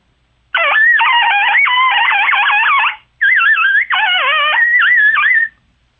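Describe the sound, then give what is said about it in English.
A turkey hunter's imitated coyote call at daylight, made to get a turkey to gobble back: two loud bursts of high, wavering yips and quavering howls, rising and falling rapidly in pitch, separated by a brief pause, with no talking. “And I have learned from the past, the sound that you're going to hear, if that turkey's going to gobble back, it will be instantly after you have did your rendition of a coyote.”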